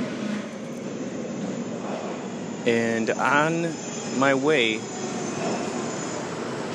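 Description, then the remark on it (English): Steady, loud rumbling subway station ambience fills the whole clip, with a continuous roar like a train, as people wait at the subway; a man speaks briefly over the noise midway through. “We are currently waiting at the subway here.”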